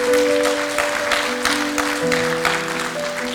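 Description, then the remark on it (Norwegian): An audience applauds a woman with dense, steady clapping that holds at an even level throughout, while a faint sustained tonal hum runs beneath it. No one speaks. “Vi gir henne en klapp og håper.”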